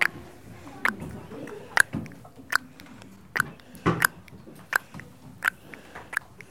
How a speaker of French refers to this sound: C'est quand ça tombe dans les flaques.